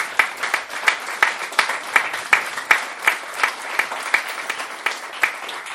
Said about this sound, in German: mal einen großen Applaus hier an das Lesben-Netzwerk hier in Hamburg.